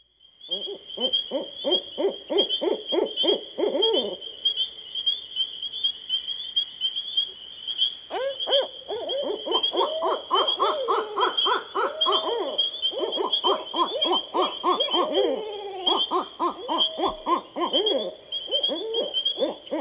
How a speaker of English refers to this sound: Finally, here's a conversation between two barred owls.